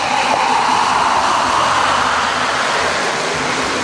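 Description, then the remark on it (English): A steady, loud fizzing hiss of a Berocca effervescent vitamin tablet dissolving in a glass of water in a kitchen, continuous, with dense crackling bubbles and no voices. “Time to say hello to my old BBB buddy, Barocca. Just pop it into a glass of water and wait.”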